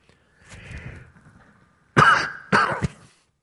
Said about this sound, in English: Give me a second to cough.